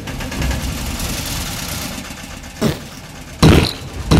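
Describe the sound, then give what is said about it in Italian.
A tractor engine chugs at a steady, rumbling idle, then gives a few sharp, louder bursts near the end like revving or sputtering. No one speaks. “Allora John e la capra accendono il trattore e uccidono gli eserciti.”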